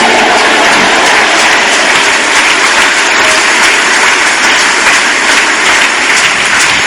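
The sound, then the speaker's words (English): Loud, sustained applause from an audience, a dense wash of many hands clapping at once that holds steady for about seven seconds with no voices standing out. “Those of you who are clapping, your tomorrow will be glorious.”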